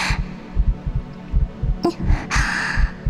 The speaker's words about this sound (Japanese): 抱き合っているとシステムが反響して、鼓動が全身で聞こえるの。ほらね、ドクンドクンって私の音と君の音が